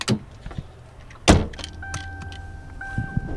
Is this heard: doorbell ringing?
no